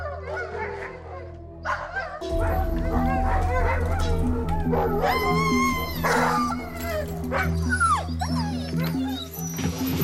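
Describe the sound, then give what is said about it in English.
A pack of sled dogs barks, yips and howls together in an excited, overlapping chorus, loud, with a steady low rumble underneath after the first couple of seconds. “These dogs are everything to us in the winter, so if I don't figure out something real quick, it's going to be a big problem.”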